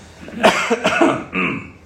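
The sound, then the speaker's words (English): A man coughs several times in quick, harsh bursts to clear his throat, ending with a lower, voiced rasp. The coughs are fairly loud, with no talking over them. “I swallowed a frog, I believe.”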